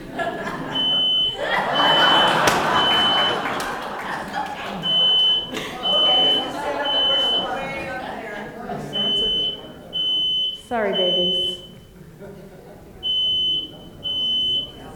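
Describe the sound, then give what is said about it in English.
A smoke alarm beeps loudly in a steady repeating pattern of short piercing tones, sounding throughout while people talk and clatter about underneath. “At home, when my smoke alarm goes off, I fan it, but it's a little far away for that.”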